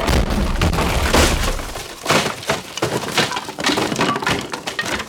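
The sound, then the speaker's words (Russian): A loud crash of cracking and splintering as something large and heavy falls into a fireplace, with a heavy breaking burst at the start followed by several more sharp cracks and clattering debris over a few seconds. “Но не успел он это сделать, как раздался страшный треск.”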